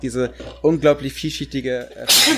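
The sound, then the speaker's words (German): A person talks steadily, then a loud, sharp sneeze bursts out right at the end, cutting the speech off abruptly. “Ja, das war auch ein lauter Nieser.”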